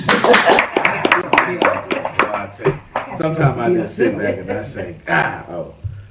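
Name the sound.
clapping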